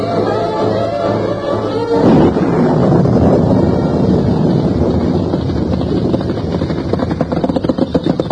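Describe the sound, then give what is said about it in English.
A storm builds: low droning wind gives way after a moment to a loud, sustained roar of gusting wind and deep rolling thunder, continuous, with no voices. “A round up at night with the storm coming on?”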